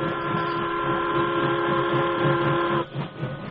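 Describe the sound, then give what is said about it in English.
A steam train starting to move: the locomotive chuffs in a steady rhythm under a loud, sustained whistle that cuts off near the end, leaving the engine's rumbling and hissing. No one speaks. “the engineer and fireman listened as the Lone Ranger explained the situation, and the train started”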